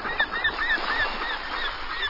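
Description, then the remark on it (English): Gulls call over and over overhead at an ocean beach in late August in mild weather, a busy, overlapping chatter, their sharp cries coming in quick succession with no one speaking. “Gulls jabber overhead.”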